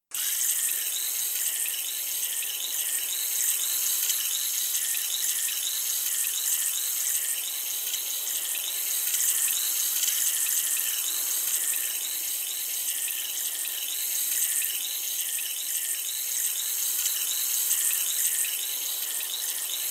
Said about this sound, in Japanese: それでは、お耳の洗浄を始めていきます。まずはこちらのお耳から。失礼します。